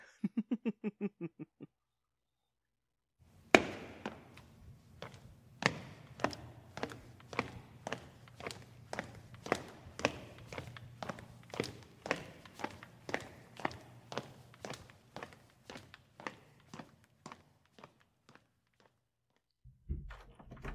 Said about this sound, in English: Ugh, what I wouldn't give for a quiet space in this blasted palace. Lady Hawk must have a study or a library somewhere in these rooms. Maybe if I just start opening doors.